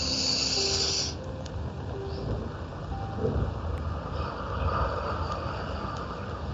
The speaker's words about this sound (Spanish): Conciencia de mi respiración. Hago una respiración abdominal desde el bajo vientre.